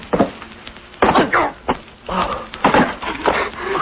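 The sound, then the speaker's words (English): A run of loud, crackling wooden crashes and splintering thuds, with brief scrapes and rustles between them, as people fall through a hole in a floor covered with hay. “We fell through a hole in the floor. It was covered with hay.”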